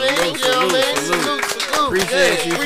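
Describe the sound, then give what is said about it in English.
A few hosts clap steadily for a couple of seconds while voices whoop and cheer over the applause. “if we can clap it up right now for Letitia”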